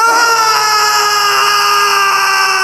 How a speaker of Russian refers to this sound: Раздался пронзительный крик, и кинжал, блеснув, упал на траурный ковер, на котором спустя мгновение распростерлось мертвое тело принца.